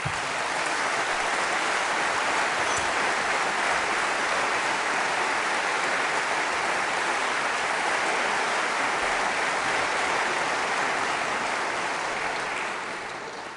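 A large audience claps steadily and loudly for about thirteen seconds for three participants after a discussion, a dense, even roar of hand claps that fades slightly at the very end. No one speaks.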